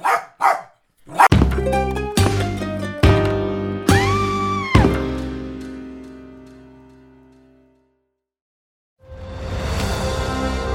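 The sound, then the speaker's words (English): A dog named Poe gives two quick, sharp barks, followed by a series of ringing musical chords that slowly fade out, then a brief silence before new sound begins. “but if you hear Poe start to bark tonight, do not hear that third bark.”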